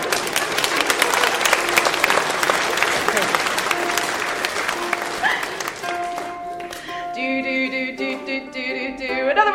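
An audience claps and cheers in a dense, steady wave of applause, which thins out after about six seconds as bright, sustained musical tones take over.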